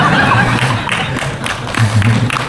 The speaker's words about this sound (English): Hey, the brahmacharis are clapping.